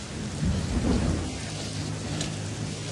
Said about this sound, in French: Mais il pleut.